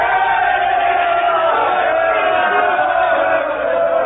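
A large crowd roars and shouts together in a continuous, loud swell of many voices, with no break for the full length, some cries rising briefly above the mass.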